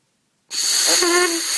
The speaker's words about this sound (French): Bon, bah, c'est raté. Je refais. Alors, quand on sait faire l'abeille dans l'embouchure, après, donc au deuxième cours, on met l'embouchure sur la trompette